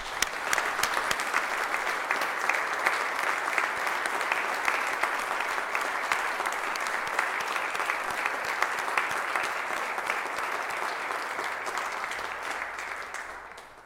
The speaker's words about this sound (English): And now they're not here, but let's recognize these folks with a round of applause.